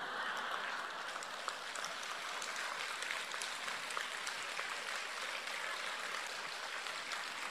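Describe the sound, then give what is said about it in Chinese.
An audience at a Buddhist talk claps steadily for the speaker for several seconds, a dense, even patter of many hands with no voices over it, holding at a fairly constant moderate level throughout. “谢谢你们的鼓掌，我听的不是这么热烈。”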